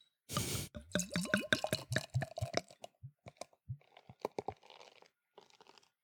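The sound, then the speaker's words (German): A bottle of IPA beer (60 IBU) is opened with a short hissing pop, then poured into a glass in a rapid run of gurgling glugs that rise in pitch, followed by soft fizzing and scattered clicks. No one speaks. “Ja, und das machen wir jetzt mal auf.”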